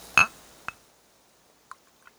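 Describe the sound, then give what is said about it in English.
A sharp crack as a Granny Smith and ginger cider is opened, with a brief metallic ring, followed by a few faint clicks and taps. No one speaks. “Let me just open that so everybody could hear that.”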